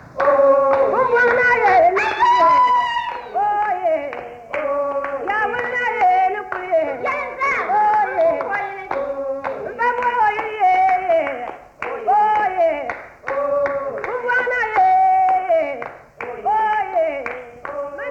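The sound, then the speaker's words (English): Steady rhythmic hand claps in the Dagbani Tora style, seven claps arranged in two groups of four then three, run under continuous singing voices, the claps sharp but partly masked by the melody throughout. “In Dagbani Tora, you may get seven claps arranged in two groups, one consisting of four and the other three claps.”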